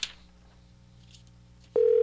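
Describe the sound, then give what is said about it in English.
A brief click and faint line hiss, then a loud, steady telephone dial tone switches on abruptly near the end and holds unbroken, heard while dialing a call to a Dunkin' Donuts store in Belleville. “A dial tone.”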